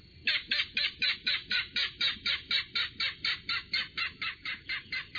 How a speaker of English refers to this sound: Sounding off, it's a king rail. Rails are secretive birds, but this one has just stepped into the open. It's glossy brown, its back streaked with black and gold, and it has a long red bill.